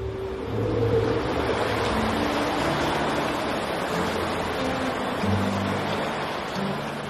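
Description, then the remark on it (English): Steady, roaring surf of ocean waves thudding against a concrete sea wall in front of old cottages, a dense wash of crashing water with low rumbling thumps beneath it, loud with no voices present. “So when the waves come in, their thudding sound is carried deep into the bones of the old house.”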